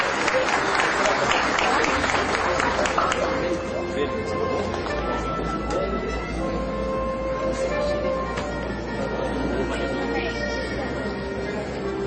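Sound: audience applause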